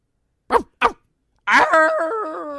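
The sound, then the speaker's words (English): A person imitates a wolf: two short, sharp barks, then a sustained wavering howl that carries to the end. Fairly loud, with no speech. “I'm going to stop there because I think you did dog first. I did dog first. Mine was a wolf.”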